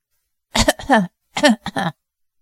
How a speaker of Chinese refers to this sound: 严福突然起了一阵猛烈的咳嗽。